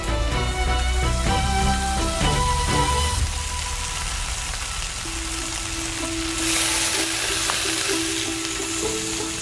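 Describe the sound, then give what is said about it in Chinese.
An ecologically farmed shimu fish sizzles steadily as it is slowly pan-fried over low heat, a continuous crackling hiss that runs the whole time, with soft background music at the start and a faint hum later. “经过小火慢煎，生态养殖的石目鱼会散发出如同烤芝麻一样的香气。”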